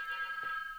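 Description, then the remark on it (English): A short electronic alarm beep, a steady high-pitched tone holding for under a second at moderate volume, with no voices present. “What was that alarm?”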